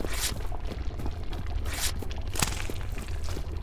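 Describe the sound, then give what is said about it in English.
A soggy, squelching rustle like paper being dunked into thick liquid, with repeated wet swishes and crinkles over a steady low rumble, fairly loud, no voices. “That sounds like a piece of paper being dipped into digestive juices, doesn't it?”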